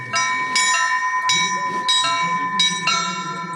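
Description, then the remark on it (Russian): Cathedral bells ring out in a quick, uneven series of loud clanging strikes, each leaving a sustained metallic hum, with a faint murmur of people underneath; members of the public ring the bells during a celebration. “Торжества в этот день вышли за пределы церковных стен, как и на Пасху каждый желающий смог позвонить в колокола.”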